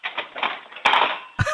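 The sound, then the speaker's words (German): Metal forks, taken out and dropped back into a kitchen drawer by a 9-year-old girl in Krems, Lower Austria, clatter and jangle in a rattling burst, then a louder crash of cutlery and a final clunk as the drawer shuts. “Und dann holst du alle von den Gabeln raus und lässt sie nochmal in die Lade reinplumpsen.”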